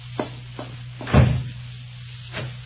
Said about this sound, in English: Oh, excuse me for banging the door.